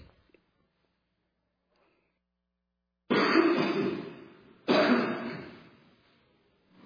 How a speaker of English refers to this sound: Excuse me a second while I cough.